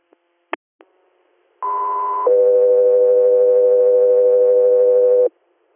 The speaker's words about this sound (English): Guthrie Air, stand by for tones.